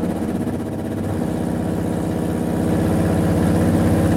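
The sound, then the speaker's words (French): A Renault qualifying racing engine being tuned runs steadily at a low, throbbing idle, fairly loud, its rumbling tone holding even throughout with no one speaking; its oil temperature is around 100 degrees, still very cold. “Mise au point d'un moteur de qualification Renault.”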